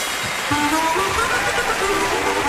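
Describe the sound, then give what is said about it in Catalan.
A crowd applauds steadily, welcoming Eduard Biosca, the preacher of global optimism. The clapping is dense and overlapping, filling the whole stretch at an even, fairly loud level, with a few faint voices rising through it. “Si us plau, un fort aplaudiment per ell.”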